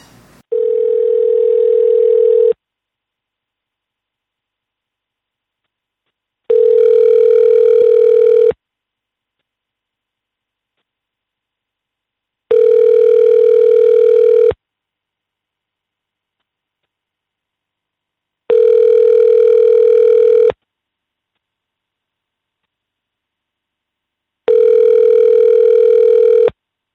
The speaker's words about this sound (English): We'll give him one more ring and see what's going on here. Forgive the ring on the phone.